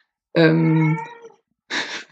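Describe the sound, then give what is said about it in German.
A cat in the background lets out a long, loud, drawn-out meow, then a brief pause and a shorter, raspier second cry, with no one talking. “Ich verspreche euch, es ist eine Katze.”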